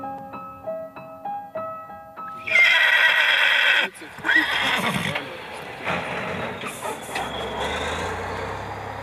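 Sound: horse neighing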